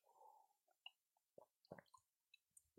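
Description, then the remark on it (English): Quiet wet sounds of someone drinking cold water from nature: a soft slurp, then several gulps and wet clicks from the mouth and throat, with no talking. “Ah, good water. It's been a while since I haven't drank water like this. Cold water from nature.”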